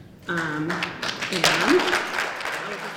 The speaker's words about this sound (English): So you can hear the applause there. There were Impeachment Now signs in the front row.